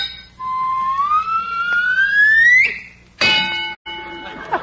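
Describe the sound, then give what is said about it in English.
A carnival strength-tester, struck with a hammer to win a cigar, rings: a whistling tone slides steadily upward for about two seconds, then a bright bell clangs loudly and rings briefly, followed by a short second strike. “Hit the bell and win a cigar.”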